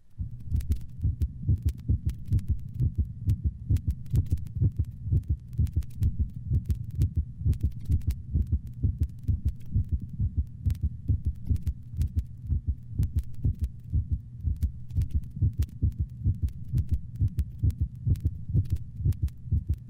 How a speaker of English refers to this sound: This occurs normally in the larger breeds of dogs. Note the low-frequency split first heart sound of a normal large dog.